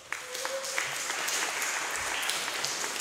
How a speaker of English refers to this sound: So clap, clap, clap. Clap if you believe in helping others. Clap if you believe that prayer can heal.